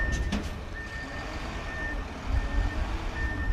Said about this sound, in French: Là, il y a 1, 2, 3, 4, 5, allez, une dizaine de camions qui circulent dans un sens et dans l'autre.